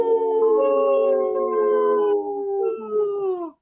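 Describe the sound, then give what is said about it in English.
A chorus of wolves howls together, several long overlapping wails sliding slowly downward in pitch, loud, sustained for a few seconds before fading out abruptly. “Hey, the park board did have no problem joining in on the howl.”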